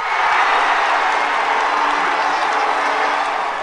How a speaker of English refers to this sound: In Singapore today, the International Olympic Committee chose London over what many thought was the favorite, Paris, to host the 2012 Summer Olympics. Crowds in London's Trafalgar Square were apparently as startled as anyone.